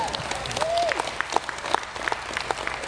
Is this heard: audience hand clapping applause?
yes